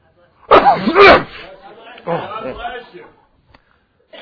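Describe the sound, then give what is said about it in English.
During a church sermon, a loud, abrupt sneeze bursts out in two quick voiced pulses, followed after a short pause by a stretch of quieter, murmured talking. “And why do we bless someone when they sneeze?”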